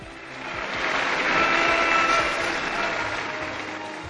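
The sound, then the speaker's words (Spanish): A crowd claps steadily for about four seconds in applause for mothers on Mother's Day, a dense, even wash of applause that swells slightly in the middle and then eases off a little toward the end. “Un aplauso a las madres.”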